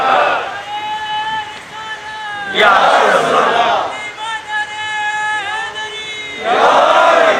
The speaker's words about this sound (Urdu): تینوں نعرے لگائیے, نعرے تکبیر, نعرے رسالت, نعرے رسول, نعرے کی طرح لگائیے